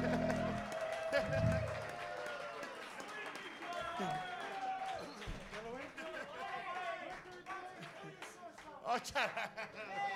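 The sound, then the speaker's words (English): Audience applause rises from a crowd, a steady wash of clapping mixed with lively chatter and a few laughs, holding at a fairly loud level for about ten seconds, given for an audience member in front of the bandstand who slept through the whole thing. “We definitely have this guy, have to give this guy right here in front of the bandstand a nice round of applause for sleeping through the whole thing.”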